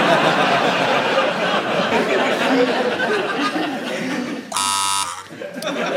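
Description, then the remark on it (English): A loud, harsh quiz-show buzzer, pressed by the host himself after a joke, blares for about half a second after several seconds of crowd chatter and laughter, with the murmuring continuing faintly around it. “I should let the audience know I actually buzzed myself for that joke.”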